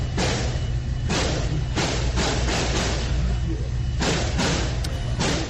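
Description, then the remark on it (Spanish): A rapid series of sharp gunshots fired by Patrick Karius, 21, in a shopping zone next to a mall in El Paso, Texas, near the Mexico border, around 10 in the morning on a Saturday; around nine loud cracks at uneven intervals, ringing out over a constant low rumble of background noise. “El autor de esos disparos es Patrick Karius, un joven de tan solo 21 años.”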